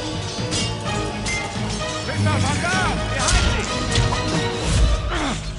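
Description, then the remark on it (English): An arrow whips through the air and strikes a soldier with a sharp thwack, set amid a loud, dense battle din with crashes and pained shouts and cries, on a battlefield in Moravia in 1141 AD. “And he got shot with an arrow.”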